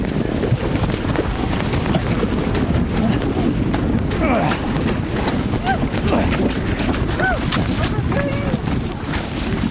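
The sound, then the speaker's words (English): Heavy rafts grind and thump over smooth driftwood rollers across a quarter-mile portage near Alsek Lake in a steady rumble of knocks and scrapes, with wind buffeting the microphone and people calling out now and then. “They'll work as primitive rollers to get the heavy rafts across a quarter-mile portage.”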